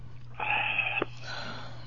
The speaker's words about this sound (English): Had a little swig there, homie. Sound like a big swig. It was.